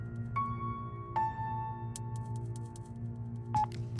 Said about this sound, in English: Shala closed the phone, ending the transmission.